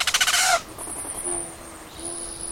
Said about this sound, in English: So fill up the hummingbird feeder, watch closely for a tiny winged flame, and listen for a whistle of wings.